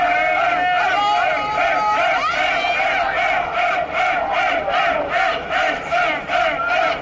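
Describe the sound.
The Huesca football team chants and celebrates loudly in its locker room, shown live through Álvaro Vadillo's Instagram, many male voices shouting together, settling into a steady rhythmic chant with regular beats in the second half.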